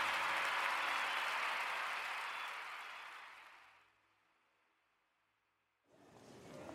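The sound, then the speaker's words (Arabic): Dense, loud clapping from many hands that swells steadily, fades out over a few seconds into near silence, then briefly returns at the end. “تصفيق حاد يا جماعة.”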